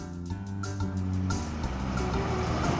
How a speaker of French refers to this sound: C'est l'heure de la collecte du lait, le camion arrive à la ferme et le chauffeur de collecte branche le tuyau et met en route la pompe.